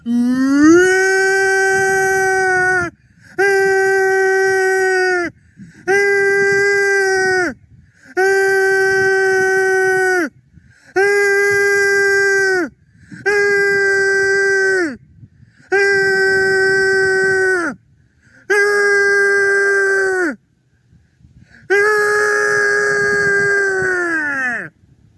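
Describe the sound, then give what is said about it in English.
A voice imitates a tornado siren with about nine loud, sustained wailing tones, each rising at the start and dropping off, repeated in a steady rhythm with short gaps between them. “I'm doing a tornado siren now.”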